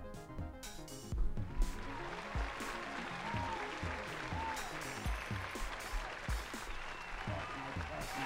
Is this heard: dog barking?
no